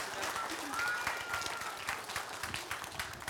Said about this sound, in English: Let's give him a big round of applause for coming in. Thank you, guys.